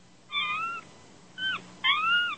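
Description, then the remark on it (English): Three drawn-out, wavering cat meows and wails in quick succession, clear, with short pauses between them and a faint low hum underneath. “The heck is that noise? Some cats, I think.”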